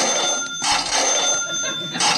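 A bell rung by a quiz contestant to answer a bonus question rings continuously for a couple of seconds, a bright, steady metallic trill with pulsing bursts, fairly loud, with no one speaking over it.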